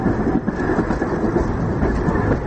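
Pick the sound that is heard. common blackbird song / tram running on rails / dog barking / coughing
tram running on rails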